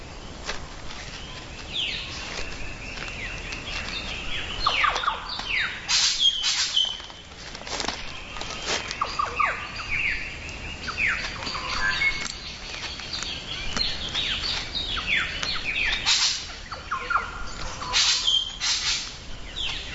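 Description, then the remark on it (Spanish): A cassowary and its chicks walk across the forest floor, their irregular footsteps crunching and rustling through leaf litter, while birds chirp and call steadily in the background. “Oímos las pisadas del casuario y sus polluelos caminando por suelo boscoso.”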